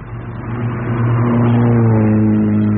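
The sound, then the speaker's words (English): A car engine revs hard and accelerates away, its steady low hum rising in pitch and growing louder over a few seconds, with no voices. “He's in a hurry. Did you see who was driving?”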